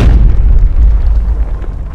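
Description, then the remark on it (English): A deep, thunderous boom erupts with a broad burst at the start, then a heavy low rumble rolls on loudly for about two seconds without fading much. “I heard a thunderous boom behind me.”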